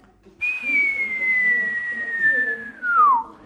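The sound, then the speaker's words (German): A person whistles a single long, steady note that slowly drifts lower, then swoops sharply downward at the end, imitating a small stone from a sling flying through the air, with faint murmuring voices underneath. “Ein kleiner Stein pfiff durch die Luft.”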